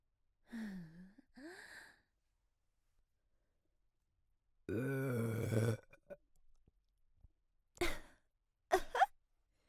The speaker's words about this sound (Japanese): いつも通り臭いヘだと思った？ブブー、ゲップでした。やっぱ臭、うんこ臭いゲップとか絶対女の子がしちゃダメでしょ。